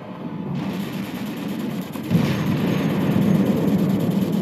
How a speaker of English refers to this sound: Crimean War rages around him. There's cannon fire, screams, prayers whispered between explosions.